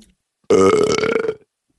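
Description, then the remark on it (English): A single loud, deep burp made on command into a microphone, lasting almost a second with a rattling, voiced tone before cutting off into silence. “can you please burp into the microphone?”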